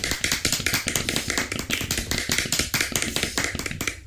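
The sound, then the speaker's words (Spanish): A short burst of applause: quick, sharp hand claps in a steady, rapid rhythm, fairly loud and with no voices, running for about four seconds before stopping. “Pide un aplauso y luego lo calla.”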